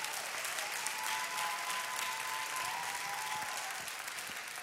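A crowd gives a hand clap of praise, many hands clapping in a dense, continuous wash of sound that holds at an even level throughout, with a faint tonal hum running beneath it.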